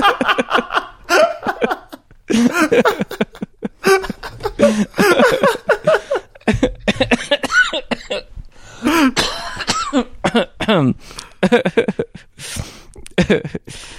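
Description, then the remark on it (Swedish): Bursts of voiced laughter break repeatedly into harsh, choppy coughs, the two sounds alternating and overlapping in uneven fits over several seconds. “Det är något kul med det du har just nu också, att vet, man skrattar och sen börjar man hosta mitt i skrattningen.”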